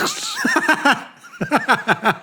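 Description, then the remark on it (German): A voice imitates the sound of trousers ripping at the seat while getting into a car. It is loud, with two quick bursts of stuttering voiced pulses separated by a brief pause, and no other talk around it. “Bei dem einen Ding so ist, ich steige ins Auto ein, reiß mir die Hose am Arsch, so ich höre so.”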